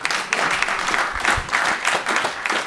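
A crowd at the Krom applauds a new referee who is to debut there, a dense, continuous patter of many hands clapping at a fairly even loudness for a few seconds, with no voices standing out.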